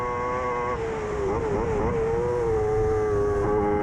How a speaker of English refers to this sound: Down a few cogs at the bungalow, around the left and the right. Notice how they just keep that engine on the boil. You have to keep it up high in the revs all the time.